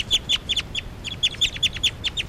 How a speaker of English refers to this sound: Now all the birds are calling stuff. It's a recording, this is bird 383 calling louds.